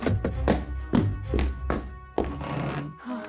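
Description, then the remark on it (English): A quick run of hollow thumps and taps, then a heavier thud as someone drops down onto a school desk and chair, followed by a brief settling knock. “bolted inside the doors, and plopped down at his desk.”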